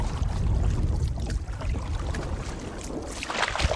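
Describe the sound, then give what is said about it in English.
Water swishes and gurgles steadily around a canoe travelling up a river, with a dense, continuous splashing wash and low rumble, no voices. “a problem Cascapedia Society manager Mark Gauthier explains to me as we take a canoe ride up the river.”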